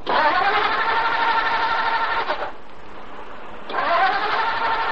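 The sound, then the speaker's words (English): A car engine cranks with a loud, grinding, mechanical whir for a couple of seconds, stops briefly, then cranks again without catching; the car won't start with the choke pulled right out. No voices are heard. “It won't start, Chuck. I'm coming. Try it again.”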